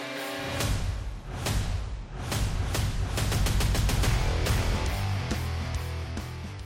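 A rapid series of sharp, loud gunshots cracks out, bullets leaving a gun barrel, about ten shots over a few seconds, layered over a deep, rumbling musical drone with no voices.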